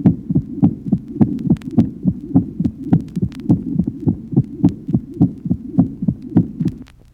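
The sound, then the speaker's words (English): A rapid, steady heartbeat with a soft, squeaky systolic murmur between the thuds, repeating evenly about twice a second with no voices present. “In the next, there is a much less loud, squeaky systolic murmur.”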